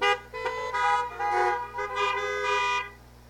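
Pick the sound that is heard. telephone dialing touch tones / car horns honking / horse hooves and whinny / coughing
car horns honking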